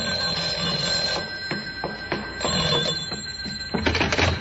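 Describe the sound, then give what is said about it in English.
A telephone rings in an apartment with a bright, buzzy bell tone, repeating in short bursts over a steady background hum, moderately loud, with no one speaking. “5 minutes later, the phone rang.”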